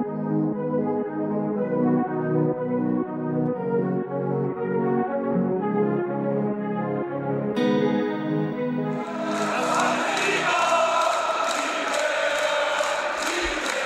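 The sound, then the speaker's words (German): Droning, effect-heavy music plays for several seconds, then a loud, dense roar of over 40,000 SV Werder Bremen fans cheering in the Wohninvest Weserstadion swells in and carries on to the end. “Tore, frenetischer Jubel von über 40.000 Fans und das große Glück, nach einem Jahr in der zweiten Liga endlich wieder erstklassig zu sein.”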